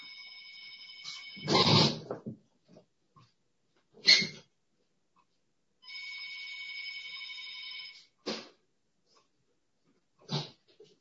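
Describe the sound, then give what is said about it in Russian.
A mobile phone ringtone plays in two sustained stretches of steady electronic tone, separated by a few sharp, loud bursts and brief knocks; no one speaks. “Сейчас я только отключу телефон, а то он будет с вами звонить.”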